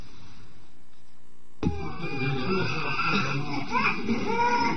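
After a moment of quiet, an infant wounded in a suicide attack two days earlier in the town of al-Armal bursts into loud, strained crying, wailing continuously with rising and falling pitch as if in pain.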